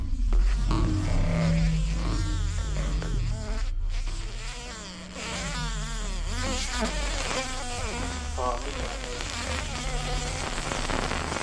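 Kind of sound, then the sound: insect, fly buzzing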